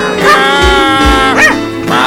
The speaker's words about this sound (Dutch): Ik stuur de hond op je af, skele rothaarsjes.